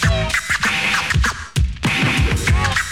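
Rapid turntable scratching, with a record jerked back and forth in quick rhythmic bursts of rising and falling whooshing tones over a steady beat, loud and continuous without any talking.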